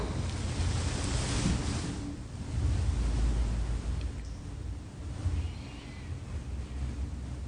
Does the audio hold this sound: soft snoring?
no